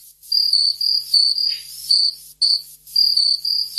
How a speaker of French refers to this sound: Oui, voilà, un grillon, c'est bon.